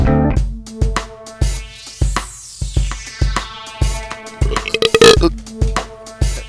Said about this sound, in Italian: Cagare sto rutto. Faceva veramente schifo.